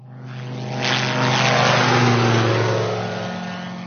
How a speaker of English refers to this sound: That afternoon, we went to Sitara Airfield to meet a microlite aircraft called a Bathawk. It's an open cockpit machine with a single engine, and it has proved a vital tool in the war against poachers.